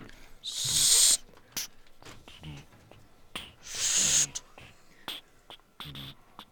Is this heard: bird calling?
yes